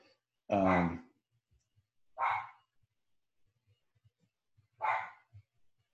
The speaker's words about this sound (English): Oh, and my dogs are gonna go off and go crazy.